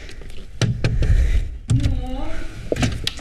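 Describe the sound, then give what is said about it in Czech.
A few sharp knocks on the door of a small orange house with a sunken ground floor in Prague's Nový Svět district, fairly loud and spaced unevenly, followed by a brief scraping, voice-like sound and a couple more thuds. “Tak já jdu zaklepat.”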